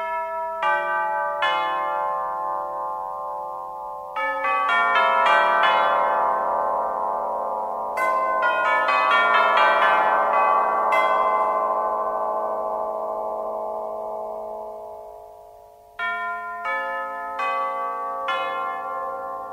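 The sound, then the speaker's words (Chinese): Tubular bells, metal tubes of different lengths hung on a frame, struck at their tops with a mallet ring out in a slow melodic sequence, each bright metallic strike blooming and sustaining into the next before a final few clear chimes, no voices. “管钟是将不同长度的金属管吊在一个架子上，在演奏的时候就用琴锤敲击管钟的顶端来发出声音的哦。”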